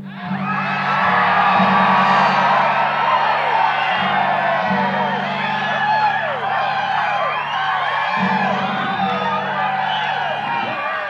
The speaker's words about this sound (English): Every one of you yell just as loud as you want to.